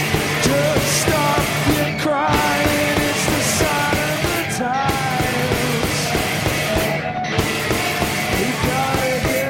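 A punk rock band ends its set with a cover of a pop song: loud, dense guitars over pounding, steady drums, with the full band playing continuously throughout.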